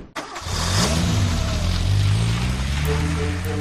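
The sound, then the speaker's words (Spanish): A car engine starts with a quick click and roars to life, then holds a steady low rumble with rising and falling tones as it revs and drives, loud throughout with no voices. “Ya en el coche, los nervios provocaron que condujera de manera extraña, hasta el punto de que la policía lo detuvo para interrogarlo.”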